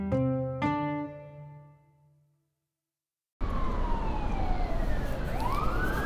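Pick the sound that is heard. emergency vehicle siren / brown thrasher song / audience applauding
emergency vehicle siren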